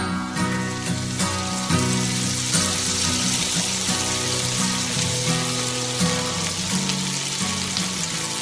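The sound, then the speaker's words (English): A frying pan sizzles loudly and steadily for the whole stretch, a dense crackling hiss with low tonal layers humming underneath; no one speaks. “When you hear that sound, you know what time it is. It's Friday night at 10 o'clock”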